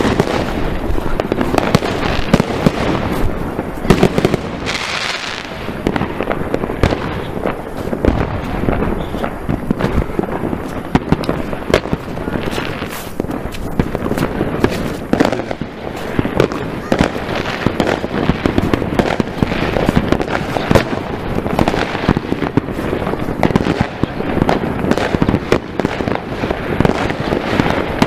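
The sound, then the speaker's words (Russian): Dense, continuous New Year's fireworks crackle and bang at night from many places at once, some bursts sharp, forming a steady, overlapping barrage for the whole stretch. “Блин, салютов до хрена реально в разных местах.”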